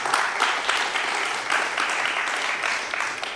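Steady applause from a crowd for a presenter at the start of a talk about CryptPad, dense overlapping claps forming a continuous bright patter at an even, moderate loudness for a few seconds, with no voices standing out.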